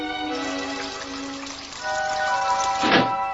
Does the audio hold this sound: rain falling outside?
yes